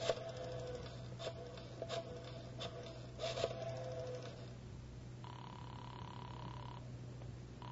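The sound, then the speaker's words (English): A phone is dialed with a series of sharp clicks, followed by a single steady ringing tone on the line, all over a constant low hum with no one talking. “Mind if I use your phone?”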